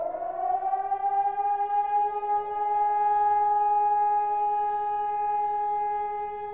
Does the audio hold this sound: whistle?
no